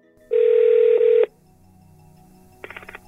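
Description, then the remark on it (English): A loud, steady telephone tone sounds for about a second, followed after a quiet pause by a quick burst of short dialing beeps as someone dials a telephone call. No one speaks. “But in the end, I decided to phone him up.”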